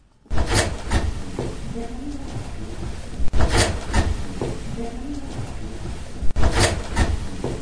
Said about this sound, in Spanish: Y sobre el cierre de la puerta... se va a oír el cierre de la puerta y hay una voz que dice, me ayudas. Es muy lejana, ¿eh? Escuchamos.